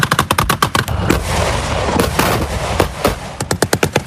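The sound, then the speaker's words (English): Rapid bursts of automatic gunfire crack out in quick, evenly spaced volleys during Taiwan's 10-day military drill, considered its largest ever, blurring into a dense rattle midway before sharp separate shots return. It is loud, with no voices. “War games on an unprecedented scale.”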